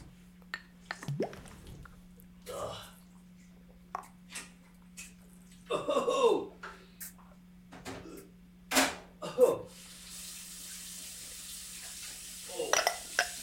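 Keys drop into a sink of water, making a few sharp splashes and scattered drips over a steady low hum, with brief faint vocal sounds between them.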